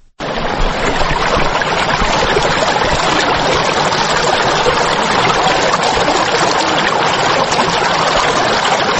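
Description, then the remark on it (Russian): The Aragvi, a fast mountain river in Georgia, rushes past, its water roaring in a loud, steady, unbroken wash of noise that keeps the same intensity throughout, with no voices. “Так звучит водная песня прекрасной, но вовсе не спокойной горной реки Арагви.”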